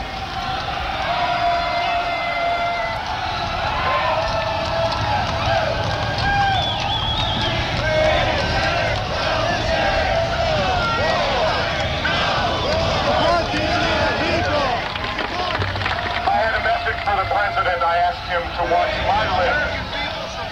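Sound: crowd screaming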